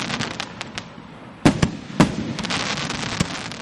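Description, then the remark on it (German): New Year fireworks: rockets and firecrackers burst in a continuous crackling barrage, with several sharp, louder bangs standing out over a dense, noisy background of pops. “Heute feiern wir mit Raketen, Böllern und Sekt.”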